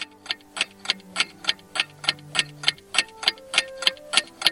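A clock ticks steadily and crisply, about three even ticks per second, clear, with faint sustained low tones humming underneath and no voices.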